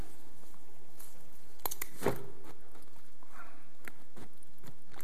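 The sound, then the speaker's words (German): A small, handy umbrella taken from a backpack is unfolded: a few scattered clicks and rustles, then one loud snapping whoosh as the canopy opens, followed by faint fabric rustling and light ticks. “Sieht harmlos aus, aber wenn der sich entfaltet, bietet der ausreichenden Schutz.”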